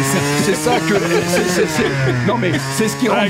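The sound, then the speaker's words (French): A Harley-Davidson motorcycle engine rumbles loudly, a steady throbbing idle with a deep, uneven beat that holds throughout the few seconds. “Donc, ce que je voulais dire par là, c'est que on a une signature, encore une fois, sonore qui est véritable, qui fait partie des gènes de la marque HD, entre autres, et qui...”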